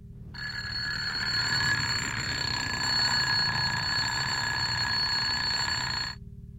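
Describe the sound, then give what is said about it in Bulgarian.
A piercing bell rings continuously for about six seconds, loud and shrill with a steady metallic buzz, then cuts off abruptly, leaving a low background hum. “Пронизително извънява звънец примерно 10 секунди и спира.”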